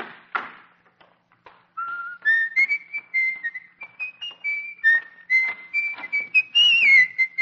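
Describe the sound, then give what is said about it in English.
A person whistles a lively tune in a public library, a string of clear sustained notes stepping up and down with a few quick slides, preceded by a couple of soft taps. “You don't have to whistle.”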